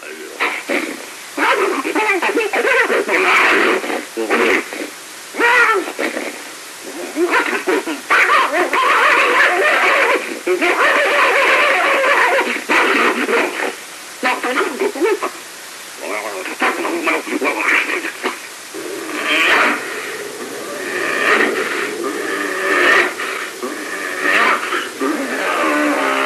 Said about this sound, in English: when you hear the real fast chatter, and I know you've heard it before being an audio guy, kind of like …, I think it's his first CD, where he has that real quick, it sounds like monkey chatter going back and forth.